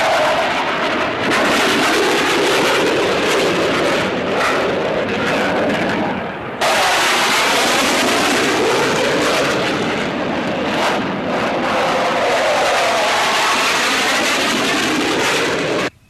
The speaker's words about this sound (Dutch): Binnen enkele minuten na de aanval van de mariniers op de trein, waarbij de laagvliegende straaljagers voor een schrik-effect zorgden, waren ook de eerste hulptroepen aanwezig.